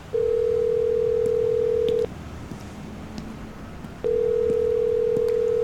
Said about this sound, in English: I pulled out my phone and called the office.